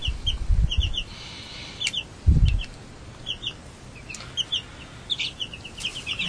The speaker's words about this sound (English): And they'll each lay an egg a day, right? Yep. Eventually. How long, will they be big? They'll be like just a normal chicken. A chicken. Come here, honey. Come here.